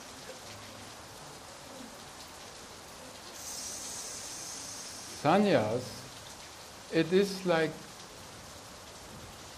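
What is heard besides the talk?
rain falling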